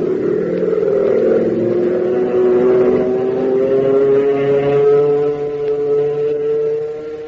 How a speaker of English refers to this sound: Boy, listen to the roar of that motor as Hop brings his ship in for a landing. And believe you me, when Hop brings her in, it's never anything but a perfect three-point landing, because Hop's an expert flyer.